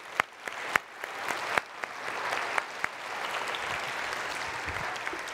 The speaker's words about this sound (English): Can we give them a round of applause?